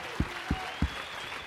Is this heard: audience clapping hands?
yes